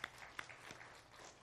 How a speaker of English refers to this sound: And appreciate you guys. Deserves a hand clap.